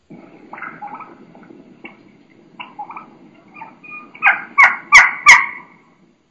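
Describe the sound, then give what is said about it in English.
A young turkey hen gives high-pitched keeking calls, scattered and faint at first, then a louder run of four or five sharp keeks near the end, over a low, steady outdoor rumble. “You know, she's going to be doing quite a bit of keeking, you know, some high pitch sounds, and it's just awesome.”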